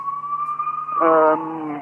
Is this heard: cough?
no